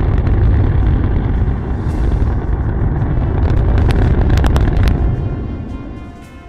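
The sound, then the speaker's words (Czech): A deep, continuous roar of rocket engines firing during a static fire test, throttled to roughly half of nominal thrust, with two engines failing to start. Loud and heavy in the low end with crackling bursts, holding steady for several seconds before beginning to fade. “Nejedná se tedy o nejsilnější statický zážeh v dějinách.”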